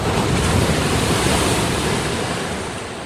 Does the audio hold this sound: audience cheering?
no